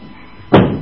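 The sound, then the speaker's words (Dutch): A kitchen door shuts with a single solid thud after a quiet moment, fairly loud, its sound decaying briefly into a low background hum. “Wil je de deur van de keuken even dicht doen?”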